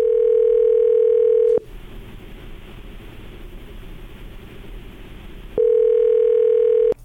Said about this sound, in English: the phone's ringing, so be real quiet for us